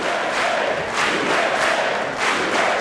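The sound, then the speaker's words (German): The assembled Congress, Democrats and Republicans, cheers and shouts continuously for Donald Trump, a dense roar of many voices swelling in waves without a break, loud and sustained throughout. “Und sie jubeln ihm zu.”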